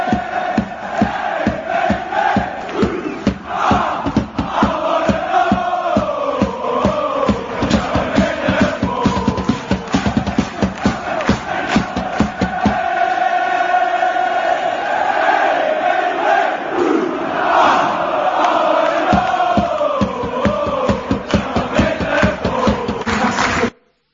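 A huge stadium crowd at a Scottish football team's game roars continuously, voices shouting, cheering and chanting together in loud, dense waves that swell and surge for the whole stretch before cutting off abruptly at the end.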